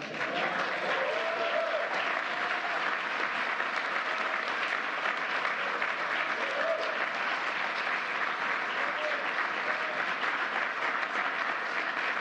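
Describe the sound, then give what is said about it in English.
Sustained applause from a large crowd for this year's Presidential Freedom recipient, dense steady clapping that fills the full twelve seconds at an even, loud level, with faint murmuring voices mixed underneath. “Let's give one more round of applause for this year's Presidential Freedom Recipient.”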